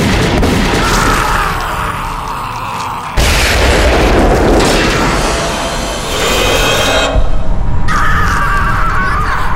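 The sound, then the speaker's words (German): A loud, rumbling explosion roars, its blast fading into crackling debris before another heavy boom bursts out, followed by a harsh cawing cry. “Ich glaub's nicht, er ist explodiert!”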